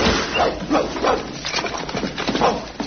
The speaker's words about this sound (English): I say, he's come straight through the wall. That's Tiny for you. Got no use for doors. I say, what a whopping great dog. Yes, he's half Alsatian and half Nelson. And just a touch of Shetland pony.